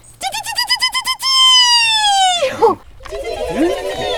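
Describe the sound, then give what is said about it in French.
A peregrine falcon calls loudly: a quick run of about ten sharp, repeated notes, then a long, drawn-out wailing cry that slides downward. A voice follows briefly afterward. “Waouh, c'est le faucon pèlerin. 250 km/h. Lui, son chant, c'est...”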